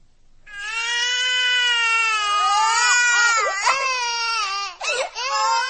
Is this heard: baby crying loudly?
yes